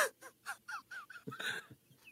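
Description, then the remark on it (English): Birds call in a quick run of short, repeated cries, fairly loud, ending in a harsher, noisier squawk before one last thin call. “Hear the birds.”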